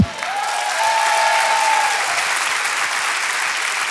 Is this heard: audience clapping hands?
yes